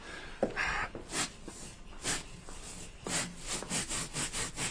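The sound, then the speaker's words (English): A sound effect of a cow being scrubbed down, meant as Fairbrother's cow being treated for warble fly: steady, rough rasping strokes repeat about twice a second, with a short huffing snort near the start. No one speaks. “It's Fairbrother's cow, the one with Warblefly being treated.”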